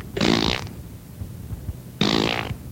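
Two loud, buzzy fart sounds, each about half a second long, separated by a pause of over a second, with no talking in between.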